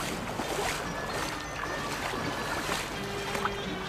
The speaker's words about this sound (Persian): این هم قایق.